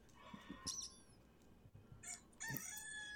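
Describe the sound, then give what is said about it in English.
A rooster crow sound effect played from a button: loud harmonic calls rising in bursts and stretching out, followed by a second strained crow near the end. No one speaks. “You want the rooster? It's cock.”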